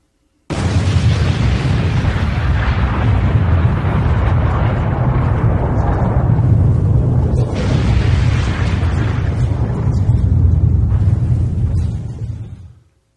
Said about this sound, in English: That wasn't loud enough. How come you didn't raise it up? It's supposed to break the speakers. It's supposed to, like, world-shattering kaboom.